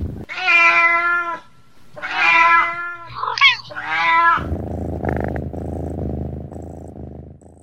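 A cat meows three times in drawn-out, wavering cries, then settles into a steady, rumbling purr, fairly loud, with no talking.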